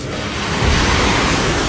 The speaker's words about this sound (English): Next is tsunami.